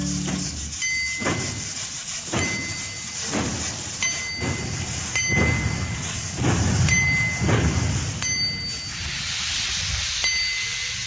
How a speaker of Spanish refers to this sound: Por un túnel negro el trencito va a pasar. A los pobres muñequitos asustó la oscuridad. Qué contentos se pusieron al volver la claridad. Po, po, po. Po, po, po. Va el ferrocarril como si fuera de verdad.